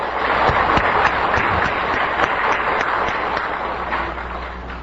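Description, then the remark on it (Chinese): A crowd claps steadily for about five seconds, a dense, continuous wash of applause with sharp individual claps poking through, fading slightly toward the end. No one speaks. “那你用最热烈的掌声，虔诚恭敬上主哈本达瓦斯开始。”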